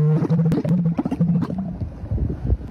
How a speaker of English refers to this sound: A camel? A camel? Yeah.